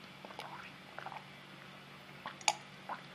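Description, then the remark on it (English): Quiet, wet mouth sounds of someone sipping water from a cup: a few soft slurps and swallows spread over a few seconds, with one sharper gulp-like click near the end. “So why don't we go ahead and we just have water in our cups today, but why don't we go ahead and have a drink?”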